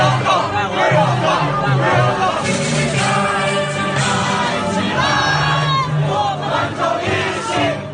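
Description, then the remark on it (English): A dense crowd of voices shouts and chants continuously, two protest groups yelling at each other at the University of Queensland, a loud, steady roar of rhythmic cries with no pauses for the full duration. “There were a few punches thrown at the University of Queensland yesterday, but for the most part it was two groups shouting and chanting at each other.”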